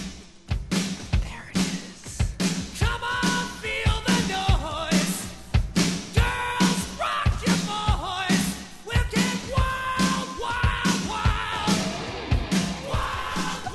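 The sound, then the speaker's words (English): A loud heavy metal song, a number one hit from 1983, plays, with pounding, steady drum hits driving a dense wall of distorted guitar and a high, belted vocal line soaring over the top. “Oh, yeah, they had a number one hit song in 1983.”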